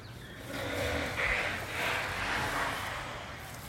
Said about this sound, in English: You can probably hear some construction, maybe some birds. Not much of a breeze right now. Okay, that is the test of the iPhone 14 Pro built-in mic.